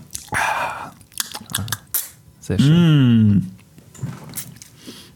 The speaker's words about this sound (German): Ich nippe mal kurz an meinem Traubensaft. Ja. Kannst du das bitte deutlich machen, sodass jeder das hört?